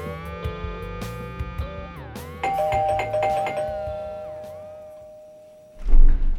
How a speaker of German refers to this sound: Bis eines Tages an der Tür geläutet hat.